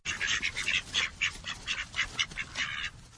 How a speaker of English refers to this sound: keeps bantam ducks in her backyard. The ducks are really for her dogs to practice their herding with, but in the winter, they don't earn their keep at all.